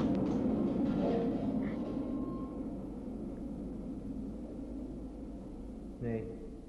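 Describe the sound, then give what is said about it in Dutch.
A low, continuous rumble like a train rolling through a network of tunnels deep inside a ship, loudest at first and slowly easing off, with a brief higher whine near the end. “Er rijdt hier een spooktrein door dit verwenste schip. Een onzichtbare trein die zoek geraakt is in dit buizennet van tunnels.”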